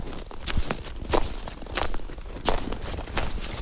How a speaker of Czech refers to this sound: Tak sníh nám krásně křupe pod nohama.